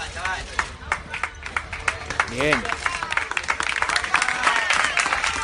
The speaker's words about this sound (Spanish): son aplausos previos a la rueda de prensa